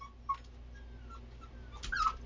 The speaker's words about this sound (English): You'll hear my doggy barking in the background.